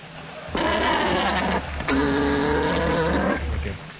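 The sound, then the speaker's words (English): An alpaca calls twice, each a loud, drawn-out, harsh cry lasting about a second, separated by a brief pause. The calls are clear over a faint low rumble, with no talking. “Number 8, alpaca.”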